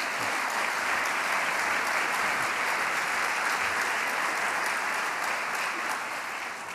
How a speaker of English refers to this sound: So they too, one is in medical school now, and the other is not with us right now, but please, how about a nice round of applause for them and their work.